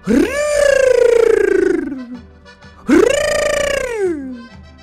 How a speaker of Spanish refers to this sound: Juan Bobo le puso la mano en la cabeza y luego le tocó la cola. Como al cuervo no le gustaba, graznó.